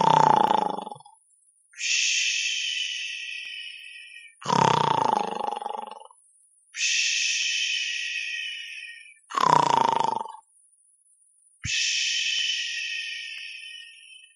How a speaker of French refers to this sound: Le diable bâilla. « Parce que c'est le boulot. » Et il s'endormit en ronflant bruyamment.